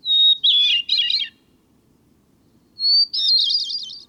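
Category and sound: bird, hermit thrush song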